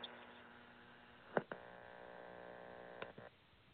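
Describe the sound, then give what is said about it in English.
Faint police radio static over a steady electrical hum, heard as an officer opened fire, broken by a sharp crackling burst early on and a few smaller clicks later, with no voices. “And as you were hearing that static, the officer had opened fire and killed the African-American in front of his doorway.”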